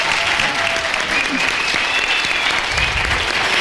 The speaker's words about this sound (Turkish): Ona da bir destek olup bir alkışlasak mı acaba